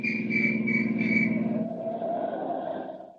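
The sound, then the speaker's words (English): A shrill police whistle blows at a police roadblock on a wilderness road at twilight, with a rapid, trilling warble for over a second, then fades into a steadier, lower droning tone that trails off. “A police whistle stabs the quiet.”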